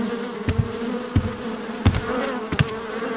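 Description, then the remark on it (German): A steady drone of many flies buzzing, with a few sharper swells as they swoop past; no voices, just the insect hum throughout. “So viele Fliegen hatten wir noch nie um diese Zeit. Guck dich mal um, Justus. Überall sitzen sie.”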